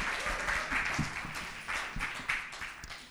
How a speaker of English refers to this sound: Why don't you give your pastor a big cheer? Such a blessing.